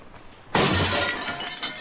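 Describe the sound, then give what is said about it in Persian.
A glass flower vase shatters with a sudden loud crash at about half a second, followed by a bright, sustained spray of tinkling shards that slowly trails off. “این چی بود؟ تا یه دقیقه پیش گلدون بود.”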